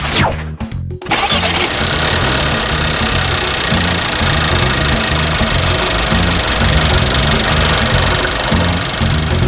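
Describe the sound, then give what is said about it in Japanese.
A Passat Variant car engine is started from inside the car, cranking briefly and catching, then settling into a steady, low rumbling idle heard from inside the cabin, loud and continuous with no talking. “今車内乗り込んでエンジンをかけてみましたが”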